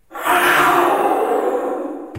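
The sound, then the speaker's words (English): A loud, rough roar made by shouting into a conch shell to imitate a jaguar, rising sharply and holding for about two seconds with a raspy, breathy growl before cutting off. “Wow, so that was through a conch shell, that roar noise.”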